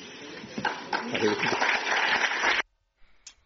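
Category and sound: crowd, audience applause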